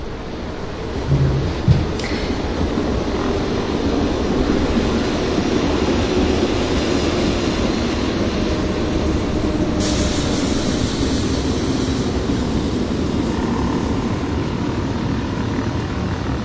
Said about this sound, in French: En même temps, il y a le train à 800 mètres sur la droite, il y a les avions pas très haut en hauteur parce qu'on peut lire quand même sur la carlingue quel type d'avion c'est.